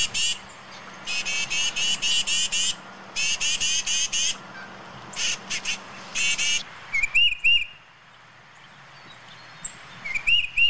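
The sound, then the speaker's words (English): A tufted titmouse gives a long run of harsh, buzzy scolding bursts in a steady rhythm, then switches to a few clear, high whistled notes after a pause. No one speaks. “It's a tufted titmouse.”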